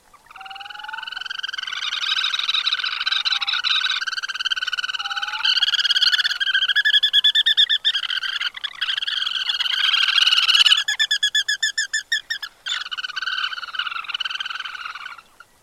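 A bird of a species that comes south to the coasts from coastal Western and Southern Alaska calls continuously and loudly, with rich, buzzy harmonic notes, rapid stuttering trills in the middle, and a few brief pauses. No one is speaking.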